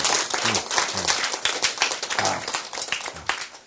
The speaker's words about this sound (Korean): 예, 박수.